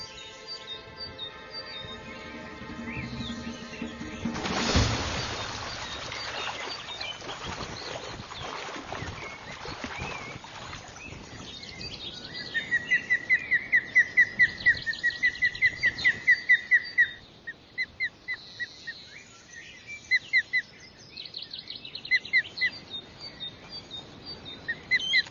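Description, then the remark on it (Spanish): Three hungry, three-week-old young eagle chicks in the nest, waiting for fish, give repeated high, thin chirping calls in rapid bursts, clear, following a brief noisy rustle near the start. “Los tres polluelos ya tienen 3 semanas de nacidos y están hambrientos constantemente.”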